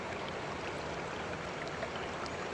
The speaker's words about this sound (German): Der Fluss hat kein Ende. Er fließt immer weiter.